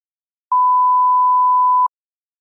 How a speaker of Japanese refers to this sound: ただいま留守番電話サービスに接続しています。ピーという発信音の後にメッセージをお願いします。